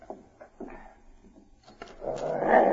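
A dog, Spike, growls low and rough in short bursts that build into a louder, sustained rumbling snarl near the end while slobbering, with no talking.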